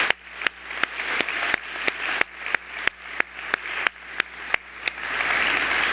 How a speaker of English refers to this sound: So let's give a big, once again, a big round of applause for Dr. Smith.